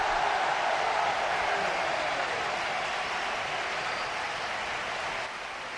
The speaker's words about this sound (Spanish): Y a ver cuándo pise el terreno de juego Ansu Fati, con qué ovación, con qué cariño recibe el estadio, que tiene muchas ganas de entrar Ansu Fati. Ahora pisa el terreno de juego.